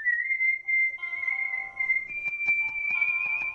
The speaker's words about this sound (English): Some woman on YouTube whistling ….